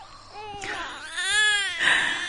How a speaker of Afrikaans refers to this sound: Ons was in die Kaap vir die Desember vakansie. My eerste en laaste sien van Tafelberg en al wat ek daarvan onthou is 'n rooi gebrande baba wat dag en nag skreeu.